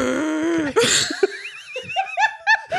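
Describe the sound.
A voice performs exaggerated heavy breathing, as for an obscene phone call, mixing loud breathy gasps with drawn-out moaning and squeaky, wavering vocal sounds in quick, uneven bursts, with no words spoken.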